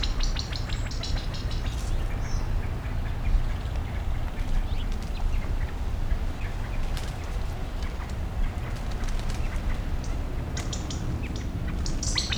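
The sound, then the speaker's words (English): Many birds and chicks call repeatedly in short, high chirps and occasional quack-like squawks, scattered over a steady low rush of stream water, with no talking. “Can't see any of the birds at present. They've all moved across the stream.”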